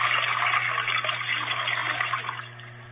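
A toilet flushes with a steady, loud rush of gushing water across the midrange, easing off slightly toward the end, with a low steady hum underneath and no talking.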